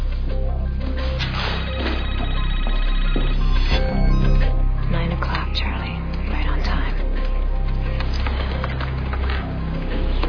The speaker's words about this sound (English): I just gotta take this call.